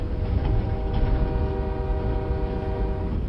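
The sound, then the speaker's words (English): Train wheels roll steadily along the tracks, heard from inside the quiet car of a train, a continuous fairly loud rumble with a faint sustained tonal whine running underneath, and no voices. “Just the gentle rolling of the wheels on the train tracks.”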